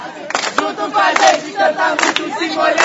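A large concert audience at a Virada Cultural show cheers and shouts loudly together in the rain, some under umbrellas, a dense roar of many voices with rising surges, sustained throughout with a few faint claps mixed in.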